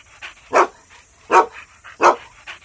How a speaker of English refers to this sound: "Woof, woof," barked Paru as he shook water all over Auntie Mina.